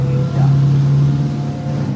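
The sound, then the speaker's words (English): A coastal patrol boat's engine drones loudly as the boat changes course away from a Russian fleet, a steady low hum that swells slightly early on, then holds an even pitch throughout. “Back on the coastal patrol boat, we change course safely away from the Russian fleet.”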